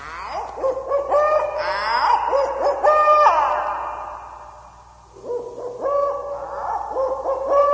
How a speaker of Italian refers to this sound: Era il mitico gufo, insomma, non usarlo oggi sarebbe stato un oltraggio anche per lui.